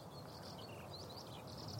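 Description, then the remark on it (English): A bird hovering above a high wheat field beside a farm track in the east of England, UK, sings a continuous, high, warbling stream of notes overhead on a sunny day, faint above a steady bed of open-air wind and rumble, with no one talking. “There's the techno bird”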